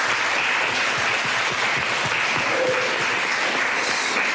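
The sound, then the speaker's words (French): A crowd claps steadily for several seconds, a dense, even patter of many hands at a fairly loud level, with no voices standing out. The audience is applauding at the close of the second session of an event. “Bien, on va s'applaudir pour cette deuxième session.”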